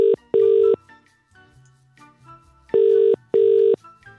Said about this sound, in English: So we gave it a ring.